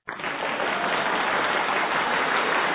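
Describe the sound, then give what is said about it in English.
A round of applause welcoming a guest on a radio show starts abruptly and holds at a steady, dense level, a thick wash of many hands clapping with no single claps standing out and no voices. “and we are so happy, honor, and have the privilege of having him on the show today, and let's welcome him with a wonderful, wonderful round of applause.”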